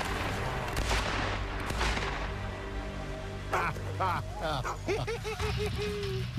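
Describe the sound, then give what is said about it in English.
Two loud shotgun blasts, fired at a bird during a hunt on the water, boom out in quick succession at the start, each trailing off in a rumbling echo, followed by excited voices calling out over a steady outdoor background. “That was a good shot.”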